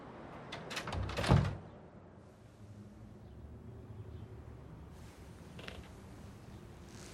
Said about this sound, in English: Shut that fucking door.